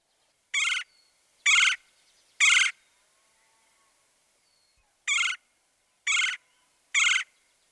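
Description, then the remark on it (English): Two sets of three loud, harsh woodpecker calls, each short and evenly spaced, separated by a few seconds of quiet, clear with no talking: the raspy, high-pitched call of a red-headed woodpecker and the lower, trilled chirr of a red-bellied woodpecker. “Remember, the raspy, high-pitched queer of the red-headed woodpecker. And the lower pitch, trilled, chirr, chirr, of the red-bellied woodpecker.”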